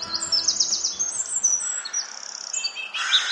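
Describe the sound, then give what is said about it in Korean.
Small birds among the branches of saguaro cacti in the Arizona desert chirp and tweet in quick, high-pitched bursts, several calls overlapping throughout, clear over a faint outdoor background with no talking. “자세히 보니 선인장 가지 사이사이로 작은 새가 눈에 띈다.”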